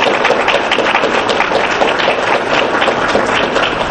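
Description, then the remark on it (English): An audience at a First Friday Club meeting applauds first-time attendees steadily, a dense wash of many hands clapping at an even, sustained loudness for the full few seconds with no voices standing out. “If you would, when you raise your hands, give them a hand of applause, please.”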